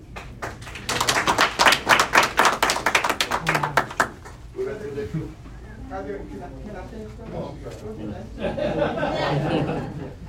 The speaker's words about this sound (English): And that's the team that you brought, and the team effort, and everybody here should shake their hand and applaud each other, because all of you are our team, and I'm very, very impressed with the team, okay, with your energy.